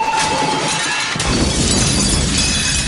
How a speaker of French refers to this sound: Mais ça a marché! Toutes les bouteilles ont explosé et nous sommes libres!